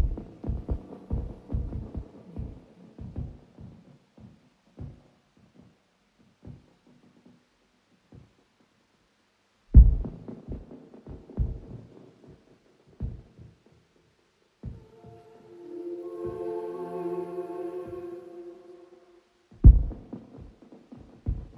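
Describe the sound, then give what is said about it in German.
A minimalist dub techno remix that leaves almost nothing but the vocals, in the style of early-1990s Berlin dub techno around the Chain Reaction label, with deep, muffled kick thumps pulsing sparsely over a low hum, thinning out to near silence before a sustained tonal swell rises and the beat returns. “hat bis auf den Gesang fast nichts übrig gelassen und erfüllte die Leere mit einem minimalistischen Dub-Techno, wie man ihn von Berliner Meistern rund um das Label Chain Reaction in den frühen 1990ern geschätzt hat.”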